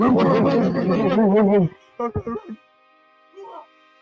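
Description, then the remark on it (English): Several voices, three people and a live audience, bark together like a dog on a count of three in one loud, drawn-out group shout, a 'J-Dub bark', followed by a few short, scattered vocal bursts and a faint sound near the end. “Last thing I need before we get out of here, you three and the people at the live pod, we need a resounding J-Dub bark before okay.”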